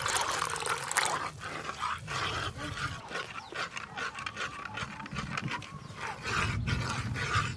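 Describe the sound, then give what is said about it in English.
Hot water pours and splashes into a thick cacao paste to dilute it into a cacao drink, a steady, fairly loud gurgling wash with small bursts of sloshing throughout, with no talking. “we're going to dilute the paste with hot water to make our cacao drink. Hot water's poured in.”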